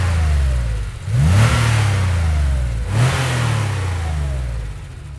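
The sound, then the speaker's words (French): A powerful sports car engine revs loudly, surging twice with rising whines between gear shifts, its deep rumble continuous throughout, no voices. “On a aussi enregistré l'énorme bruit d'un moteur de voiture de sport.”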